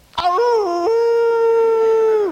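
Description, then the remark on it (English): A person imitates a dog's howl in one loud, sustained, wavering cry that steps up and down in pitch before fading out, with no other sounds. “It isn't easy to stand your ground because there's always the call of the wild out there, isn't there? Like that dog show.”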